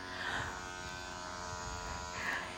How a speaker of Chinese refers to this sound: 震动声音这么大，都没有吵到他。